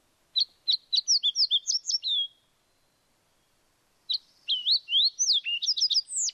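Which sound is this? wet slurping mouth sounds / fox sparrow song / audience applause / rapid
fox sparrow song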